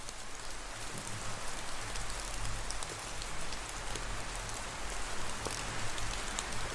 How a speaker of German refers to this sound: Leiser und sanfter werden. Dann wirst du nur noch wenige Tropfen sanft von den Blättern fallen hören.